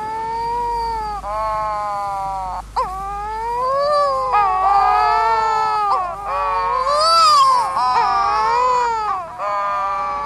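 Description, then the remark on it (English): Courting pairs of wedge-tailed shearwaters, dark gull-sized seabirds, moaning and wailing in overlapping, rising and falling cries, eerie and almost human or cat-like, sustained loudly over a low steady rumble with no speech. “Some early sailors feared that this ungodly wailing meant they had been tricked ashore at the gates of hell itself, when in truth they stood shuddering among courting pairs of seabirds called wedge-tailed shearwaters.”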